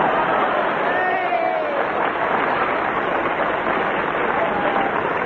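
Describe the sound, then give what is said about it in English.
A studio audience claps steadily throughout, a dense, sustained wash of applause with a faint whistle rising briefly early on. “Blue bottle making sign to audience for applause.”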